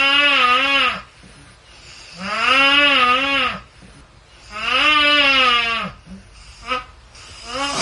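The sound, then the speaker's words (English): Three loud, high-pitched snores from a man with a cold in a living room, each a squeaky, wavering tone lasting about a second, repeat at steady intervals with short breathy pauses between them and no talking. “That doesn't even sound like snores.”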